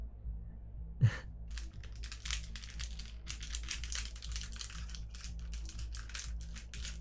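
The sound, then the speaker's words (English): Continuous crinkling and rustling of a paper slip being handled and pulled from a bowl during a game of truth or dare, with one sharper crackle near the start over a low steady hum, and no voices. “Alright, just reach into the bowl and pull out the next slip of paper for me, okay?”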